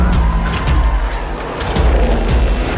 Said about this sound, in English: This is driving around in circles really, really fast!